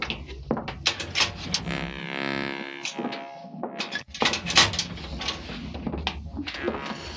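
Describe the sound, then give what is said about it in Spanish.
A laboratory door creaks open with a long, drawn-out groaning squeal, surrounded by scattered knocks and clatter, fairly loud. “Calimán abre la puerta y los tres penetran.”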